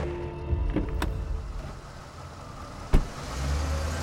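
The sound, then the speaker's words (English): Viggo Rasmussen's car drives across town at about 6 p.m., with a steady low engine and road rumble heard from inside the cabin, broken by a few sharp clicks and a thump partway through. “The pair drove across town.”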